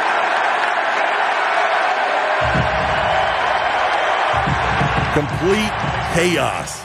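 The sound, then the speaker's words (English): A packed basketball arena crowd roars steadily for several seconds as Andre Drummond comes back onto the floor, a loud, dense wash of cheering and noise, with a few sharp shouts and whoops rising above it near the end. “Look who's coming back, and let's listen to this crowd.”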